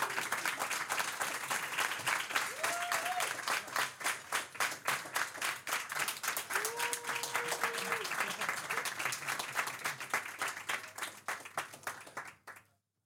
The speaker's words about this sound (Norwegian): Gi han en stor, varm applaus.